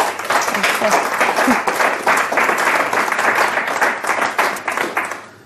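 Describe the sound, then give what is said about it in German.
Steady audience applause welcoming a guest from the record label Intact Records, a dense wash of many hands clapping at an even loudness for several seconds before it starts to thin out at the end. “Begrüßt bitte mit einem herzlichen Applaus”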